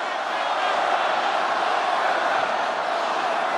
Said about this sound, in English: The crowd starts yelling, "Lock her up."